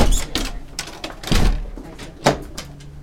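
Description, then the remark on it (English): Heavy school doors at Homecroft Elementary in Perry Township, leading out to metal classroom trailers, swing open and shut with several clunks and a sharp bang, the latches clicking between them, echoing over a low background rumble. “And then these are the doors that we walk through to get to the trailers.”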